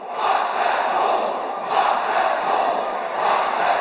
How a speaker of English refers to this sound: KSI leads the crowd into a fuck the Pauls chant. Let's get a chant going. Fuck the Paul.